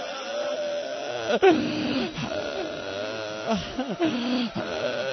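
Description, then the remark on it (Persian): Many young men weeping together at a mourning gathering, a dense, continuous swell of wavering, sobbing wails broken by sharp catching breaths and louder cries rising out of the crowd. “جانم چقدر جوونا دارن قشنگ گریه میکنن.”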